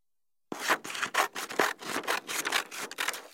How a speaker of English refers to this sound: Scissors.